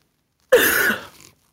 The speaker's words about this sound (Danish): Ej, jeg prøver altså lige sådan at hoste ordentligt ud.